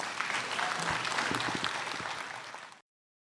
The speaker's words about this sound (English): Okay, so that concludes our … performance, and we're going to go back now to the …. And you know, while they're transitioning, I think we should give them another round of applause.